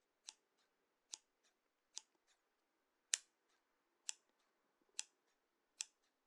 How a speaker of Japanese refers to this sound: 先輩はハスミの音好きですか？私は結構ハサミの音好きです。